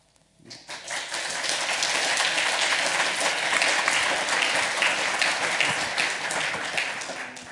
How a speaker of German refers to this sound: Applaus